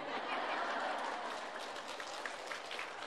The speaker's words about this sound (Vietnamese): Chiều nay chắc có lẽ là những tràng pháo tay của đạo tràng Phật tử cũng đã thay thế cho sứ ngôn viên trong cái buổi giới thiệu cũng như là cung thỉnh pháp thoại của thầy.